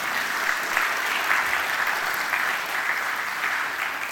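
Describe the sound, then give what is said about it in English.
Steady applause from an audience welcoming a guest being introduced fills the space, a dense wash of many hands clapping at once, sustained at an even level for several seconds with no voices standing out. “But yeah, you can clap for”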